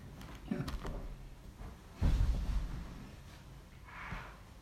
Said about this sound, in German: Und Türe schließen. Immer ein bisschen schwierig mit dem Korb, weil die Feder so lang ist.